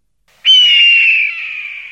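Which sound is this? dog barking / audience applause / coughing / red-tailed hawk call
red-tailed hawk call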